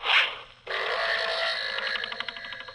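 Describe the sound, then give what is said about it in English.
An archery sound effect: a brief airy whoosh, then a sudden sharp hit that rings on as a bright, wavering rattle, slowly fading over a couple of seconds. No one speaks. “Possibly due to archery incidents.”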